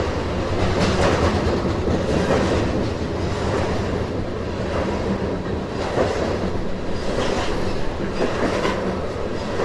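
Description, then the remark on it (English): A long coal freight train rolls steadily past on the rails, its cars rumbling and clattering loudly and continuously, with a faint rhythmic clack from the wheels and no voices. “Yeah, that's all coal. I'm looking back, and there's no end in sight to this train.”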